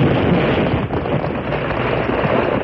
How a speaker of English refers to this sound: the ground was rocked by an explosion. Needle Rock seemed to rise straight in the air, and then it fell, gouging up tons of red clay as it hurtled toward the bottom of the canyon.